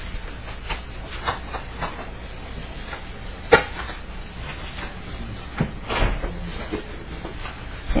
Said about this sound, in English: Yeah, if you have some witnesses, go ahead and bring them up and move some chairs around there if you need to.